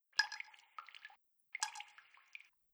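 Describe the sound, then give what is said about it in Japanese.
Two bursts of water dripping, each a quick patter of drops splashing into water and lasting about a second, separated by a short silence. No voices. “3、2、1、ポタポタ、ポタポタ。”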